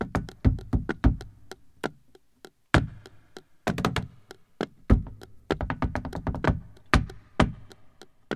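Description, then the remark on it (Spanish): Flamenco heel footwork (taconeo) from the soundtrack of Carlos Saura's film Flamenco: sharp, percussive stamps and taps in fast bursts and rolling flurries, broken by brief pauses, loud and clear with no voices. “La autora de este taconeo se convirtió a partir de entonces en un icono de las nuevas tendencias de la danza flamenca.”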